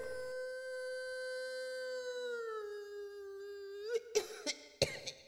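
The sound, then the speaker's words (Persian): A voice imitates a wolf's howl: one long, steady, close-up wail that sags slightly in pitch, then breaks into a few short, rough bursts at the end. “خوابش رو زیر دندونای تیزش مزه مزه کرد و از خوشحالی زوزه کشید.”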